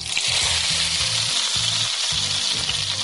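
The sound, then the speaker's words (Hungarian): Steady sizzling of small filled potato dumplings frying in olive oil in a pan, a dense crackling hiss throughout with low clattering underneath, with no talking. “És akkor ezeket utána ilyen sütőpapírra előkészített kis vágódeszkára teszem, amelyre tudom és dolgozom, és utána pedig serpenyőben olívóolajon ki fogom sütni.”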